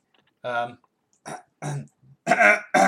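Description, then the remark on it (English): A man makes a series of rough, throaty vocal bursts, fairly loud, sounding like repeated throat clearing as he attempts to imitate an F1 car engine; the last bursts are harsher and louder. “That was just you clearing your throat.”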